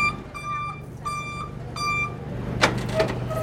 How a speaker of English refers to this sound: Oh, here it comes. There's the truck.